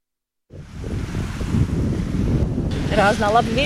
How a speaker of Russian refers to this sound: Сегодня на озере разноветренно. Кайтбордисты из Резекны признают, ветер и волны отличные.